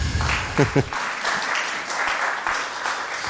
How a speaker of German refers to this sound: Ja, ein Applaus